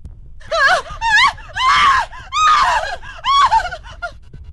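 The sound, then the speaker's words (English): A person lets out a run of about five shrill, wavering, scary screams in quick succession, loud, each cry rising and falling in pitch with brief gaps between them. “That was a scary one.”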